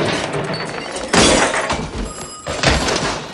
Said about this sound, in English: pulls the curtain across the window and door.